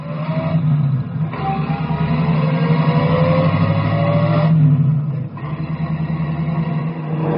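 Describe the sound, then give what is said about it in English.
A taxi's engine roars loud as the cab accelerates away in pursuit of a motorcycle, its pitch climbing and shifting through gear changes in one continuous surge with no voices. “Cabby, follow that sailor on the motorcycle.”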